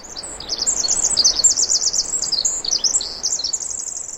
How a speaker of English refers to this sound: Here's a flock of winter wren in Utah gathering together for warmth in the winter and continuing to sing.